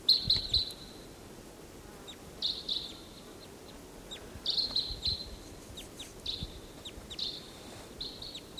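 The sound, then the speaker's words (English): Wild crossbills give short, high, repeated chip calls in loose bursts, some rapid clusters, over a low rumbling background; no one speaks. “Wild bird.”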